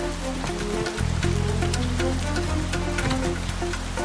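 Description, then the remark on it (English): Steady rain falls on a laneway decorated with lights, a dense hiss dotted with sharp patters of drops hitting a surface, with a low humming drone running underneath throughout. “Mia hurries through the rain down a laneway decorated with lights.”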